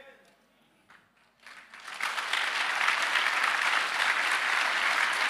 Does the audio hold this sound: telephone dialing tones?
no